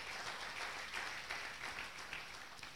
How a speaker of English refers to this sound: In Jesus' name, clap your hands to the word of God.